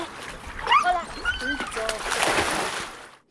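A dog whines in short, rising whimpers, then water splashes and sloshes loudly for about a second before fading out, during water rescue dog training in Lake Thun.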